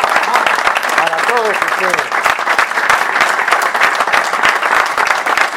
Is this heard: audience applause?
yes